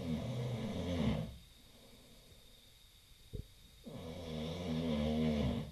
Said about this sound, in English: There were eight of us in one room, a room meant for one slave family. There was a lot of tossing and turning and snoring.